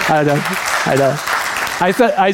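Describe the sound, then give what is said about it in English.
An audience claps steadily in a dense, continuous patter for a couple's 34th wedding anniversary, with a man's voice speaking in short bursts over the applause. “Just a few weeks ago, we had our 34th wedding anniversary, and that is, yeah, worthy of a clap.”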